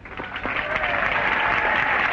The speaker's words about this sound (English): Robert, when I hear that, I keep thinking that the applause sounds perfunctory. Like, the audience doesn't sound very excited. That's because they're still sober. They've been sober for years.